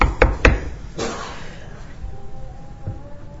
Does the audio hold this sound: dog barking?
no